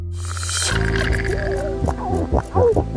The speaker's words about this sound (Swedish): Sälar som knorrar. Och fiskläten.